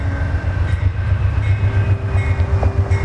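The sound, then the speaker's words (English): A train rumbles past on the tracks, running over pennies on the track to smash them: a heavy continuous low roar with rhythmic wheel thumps and faint metallic squeals riding over the steady din of the cars. “smashing pennies on the train track. We're now up on the tracks. Here come the lights.”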